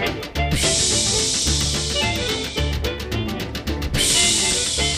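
Steam train sound effects on a 1956 blues recording: steady, rhythmic hissing chuffs pulse loudly over a blues band with deep, repeating bass notes, and a burst of brighter hiss swells near the end.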